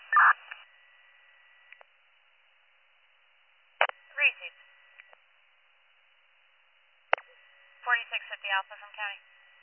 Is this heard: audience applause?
no